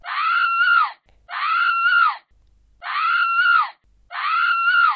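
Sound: woman's loud scream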